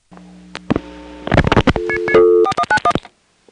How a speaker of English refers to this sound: In any case, let's see what happens if from a touchtone phone we dial 4191 and hang up.